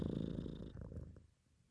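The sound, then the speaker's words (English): A person imitates a cat's purr with a low, steady rumbling trill, fairly loud, lasting about a second before trailing off into quiet. “Sorry, I was just purring real quick.”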